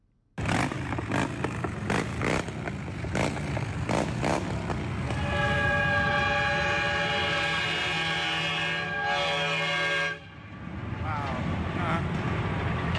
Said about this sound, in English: Sounded like a train. It did sound like a train. That was actually a truck, not a bike, but there were some trucks in the procession.